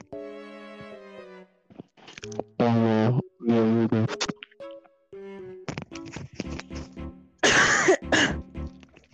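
A run of loud coughs and throat-clearing sounds, some hoarse and voiced, others harsh and breathy, coming in uneven bursts with brief pauses between them.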